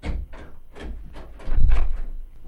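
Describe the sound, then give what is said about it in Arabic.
A door opens as a visitor enters, amid a string of soft, regular thuds, with a heavier low bump partway through, moderately loud, no voices. “من في الباب؟ أنت يا أخي سعيد؟ تفضل، الباب مفتوح.”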